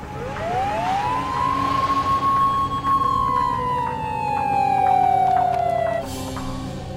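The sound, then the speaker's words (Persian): An ambulance siren from two ambulances arriving at a university for injured students rises into a long, loud wail that slowly sinks in pitch. It is carried over a steady low engine rumble before cutting off near the end. No one speaks. “برو ببین چند تا آمبولانس اومده.”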